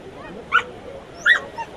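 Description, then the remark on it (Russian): Dogs let out two short, high-pitched yelps and a brief whine, spaced about a second apart, over a steady outdoor background hiss, at a surfing competition for dogs on the water with their owners in Rio de Janeiro, Brazil. “Собаки под присмотром своих владельцев вышли покорять водную стихию в Рио-де-Жанейро.”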